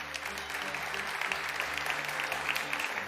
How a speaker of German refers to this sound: Wer klatscht für das Westfalenblatt?